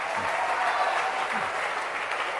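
audience clapping hands

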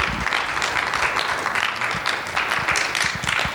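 audience applause

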